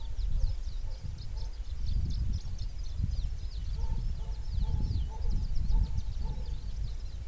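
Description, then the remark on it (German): Continuous twittering and whistling of many birds in the trees fills the air, high chirps overlapping steadily, with a low outdoor rumble and faint wind noise underneath. “Köter sind alle neurotisch, die Vögel nicht. Die bellen ja auch nicht, ne? Die pfeifen.”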